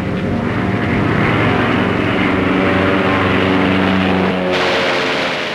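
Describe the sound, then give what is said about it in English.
A propeller plane, the second of several planes, roars loudly as it dives toward the ape Kong, its engine drone rising in pitch and then shifting as it sweeps past and veers off, with no voices. “The second plane dives toward Kong, its nose pointed at the ape.”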